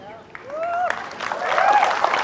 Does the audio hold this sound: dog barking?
no